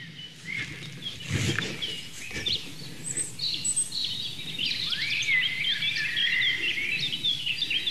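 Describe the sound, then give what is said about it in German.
Bright, fluting, blackbird-like song of a blackcap in quick, warbling phrases, building in the second half over a steady outdoor background with a brief rustling burst early on. No one speaks. “Das helle, amselartige Flöten, schnell vorgetragen von der Mönchsmücke.”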